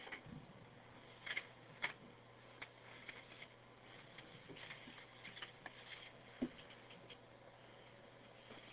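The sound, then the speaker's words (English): Quiet, continuous rustling and scratching as sheets of paper are shuffled and handled, with a few sharper crinkles and taps scattered through; no one speaks. “So many pieces of paper.”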